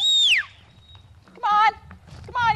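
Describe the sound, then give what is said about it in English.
Horses grazing in a pasture in Direct, Texas, whinny: a falling squeal opens, then two shorter, buzzy calls follow about a second apart over a low outdoor rumble. “The horses grazing in direct Texas pay no attention to their owner.”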